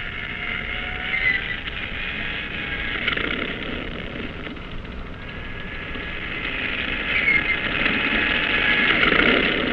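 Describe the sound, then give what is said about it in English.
A propeller plane engine starts and roars steadily aboard a cruiser, a dense droning rumble with a whining edge that swells slightly louder toward the end. No voices are heard. “Start engine. Stand clear. Turn over.”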